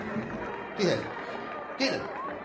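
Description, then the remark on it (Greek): Two heavy footsteps on stairs, about a second apart, clear over a low murmuring background. “Ακούω βήματα στη σκάλα.”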